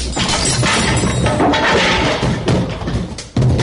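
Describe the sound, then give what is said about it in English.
A door is forced and broken in by United States Military Police with loud, sustained crashing and splintering, sharp cracks and thuds layered together, a brief lull, then another heavy impact. No voices are heard. “United States Military Police, open this door! Break it down!”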